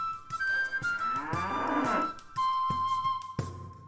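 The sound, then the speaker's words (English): Pedigree dairy cattle of a farm herd in the Scottish Borders moo in a long, loud, droning call that swells and falls in pitch over a couple of seconds, set against a steady background hum with a thin whistling tone. “championship potential of his parents' pedigree dairy herd as they are.”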